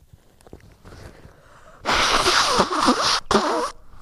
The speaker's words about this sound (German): ich muss mal kurz gucken, ob ich Nase putzen kann. Also ist nämlich gerade so viel.